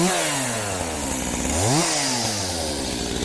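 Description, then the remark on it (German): A chainsaw runs loudly and steadily, its engine pitch sliding down, briefly revving up near the middle, then settling again, with no voices. “Als Mann mit der Kettensäge, so inszeniert er sich, weil er das alte System zertrümmern will.”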